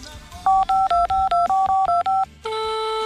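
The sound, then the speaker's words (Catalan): A quick run of about nine touch-tone beeps as a phone number is keyed in to call Can Boqueta, a small restaurant that does company dinners and lunches. Each tone is short and evenly spaced, followed by a steady ringback tone on the line. “Hem telefonat a restaurants que fan sopars i dinars d'empresa.”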